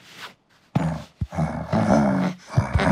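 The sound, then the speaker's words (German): A bear growls as it arrives, a loud, rumbling roar that starts abruptly after a brief quiet moment and rolls on in uneven surges for a couple of seconds, with no talking. “Gut, dass du kommst, Bär.”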